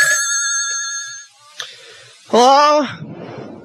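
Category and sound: household object, telephone ringing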